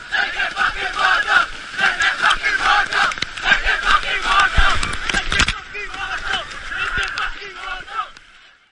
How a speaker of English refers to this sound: will spend 21 days on a journey from the source of the Great Fish River in the Karoo to its mouth on the Indian Ocean, where the children will chant and then chant some more as they dive through the waves of the sea, like in this audio from 2016.